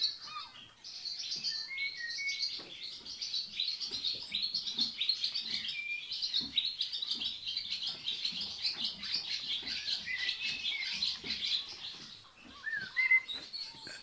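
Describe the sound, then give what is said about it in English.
A swallow sings its dawn chorus in stables at first light, a busy, continuous stream of high twittering chirps and trills, steady and fairly loud throughout, with faint soft rustling and shuffling of horses munching hay underneath and no voices. “And I've got swallows all round me, so hope, apart from the munching of the horses finishing their hay off, you can hear a swallow doing its dawn chorus.”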